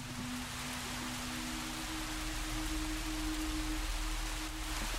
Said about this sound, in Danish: Det regnede.